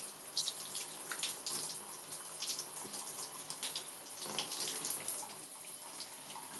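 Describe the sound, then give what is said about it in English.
Steady running water splashes and patters continuously, a hissy spray with irregular bursts as it hits a body or surface during a quick shower rinse. No voices. “You gotta let the water run over your butt cheeks.”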